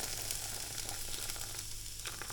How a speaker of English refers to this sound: And I spilled it all onto the stove that was hot, so it's boiling off.